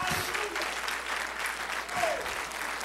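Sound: audience clapping hands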